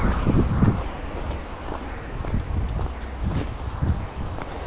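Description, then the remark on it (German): Gusty wind buffets a microphone, producing a steady low rumble with irregular thumps and swells, fairly loud, with faint rustling in the background and no speech. “Ja, und falls der Wind bösartige Geräusche macht, ich kann nicht dafür.”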